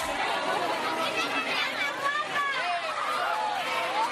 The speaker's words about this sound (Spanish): Este era el ambiente de otros años en la cabalgata de Reyes de Montefrío. Este año habrá menos griterío, pero habrá.